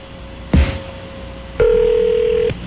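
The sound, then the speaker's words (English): Ringing tone on a telephone line during an outgoing call to G. Gordon Liddy's home number: a faint steady hum, a sharp click, then a loud, steady electronic tone that lasts about a second before cutting off. “I hope I don't get killed by calling his home number.”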